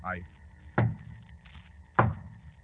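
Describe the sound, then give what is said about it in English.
Two solid knocks on a door at midnight as a signal, about a second apart, each a sharp, resonant thump. “Holmes, the signal. Yes. Two knocks on the door.”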